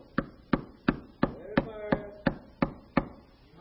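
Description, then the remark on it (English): Ten sharp hammer knocks land in a steady, even rhythm, about three per second, loud, with a faint voice-like tone briefly sounding underneath midway. “Oh, I wish I had that hammer.”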